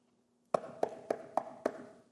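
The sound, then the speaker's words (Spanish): Five quick, evenly spaced knocks on a door ring out clear, each with a short hollow resonance, after a moment of near silence and with no voices. “Cristo está tocando la puerta.”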